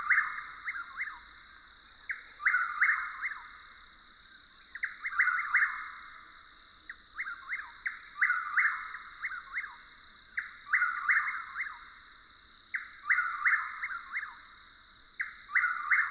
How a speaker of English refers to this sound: What luck! Two chuckwills calling back and forth, their reverberant songs reflecting off the surrounding pine woods.